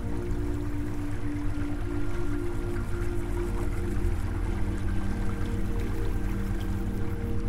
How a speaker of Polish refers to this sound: Woda jest ciepła. Płynie szybko i dynamicznie, więc kładziesz się w tym ciepłym strumieniu.